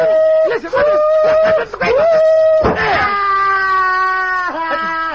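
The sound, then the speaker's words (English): A voice imitates a train, giving a few short wavering whistle-like hoots followed by a long, loud, sustained wail that slowly falls in pitch, with no other talk. “No, I'm the one that makes the train noises.”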